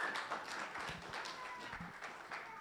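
A crowd claps in a steady, dense patter of many hands. The applause sounds somewhat distant and moderately quiet, continuing without a break for a few seconds.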